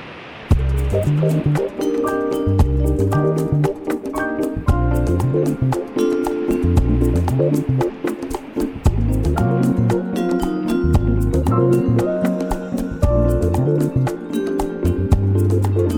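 An upbeat instrumental groove with a walking bass line, crisp rhythmic percussion ticks, and layered piano chords playing steadily and loudly throughout, with no voices.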